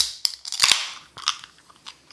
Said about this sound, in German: Aber hey, lass uns doch mal anstoßen. Wir haben doch wieder was zu trinken hier.